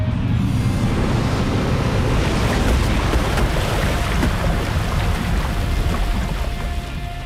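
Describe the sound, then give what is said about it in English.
A video game sound effect for the water attack Water Apocalypse, used by Foe Hyper Atherillion: a loud, sustained rush of churning water roars like a crashing wave for about seven seconds, staying steady before easing slightly at the end, with no voices present. “Foe Hyper Atherillion used Water Apocalypse.”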